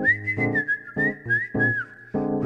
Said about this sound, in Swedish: Bananbusken visslar så man ska komma och äta upp alla bananerna. Den är väldigt ivrig. Och den tystnar inte förrän alla bananerna är uppätna.